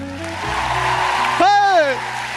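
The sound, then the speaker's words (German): A steady wash of audience applause welcoming a guest, with low music tones underneath and a single rising-then-falling shouted exclamation cutting through near the end. “Und obwohl er noch immer keinen eigenen Wikipedia-Eintrag hat, genau, begrüßen Sie mit einem herzlichen Applaus ….”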